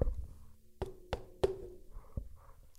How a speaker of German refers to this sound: Er klopft erst an die Küchentür.